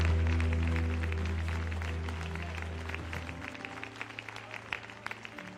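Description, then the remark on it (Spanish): An audience applauds a testimony of God's love, a dense wash of clapping over a low sustained hum that fades after a few seconds, leaving scattered sharper claps. “Aplauda fuerte a un testimonio tan maravilloso del amor de Dios, del poder de Dios.”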